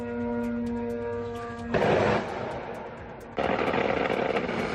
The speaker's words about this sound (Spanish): Pues lo que escucha son las defensas antiaéreas tratando de derribar los drones iraníes.